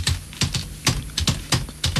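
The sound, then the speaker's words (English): Quick, uneven keystrokes clatter on a computer keyboard, about a dozen sharp clicks in an irregular rhythm with no voices, as someone types to look up Orlando Bloom's age online. “I'm just looking up his age. How noisy do you type?”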